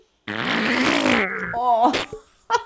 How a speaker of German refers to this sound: es gibt nichts, was so riecht wie Robbenfurz. Oh. Die kriegen ja nur Fisch.